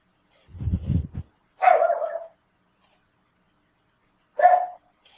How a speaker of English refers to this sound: Someone's dog is excited.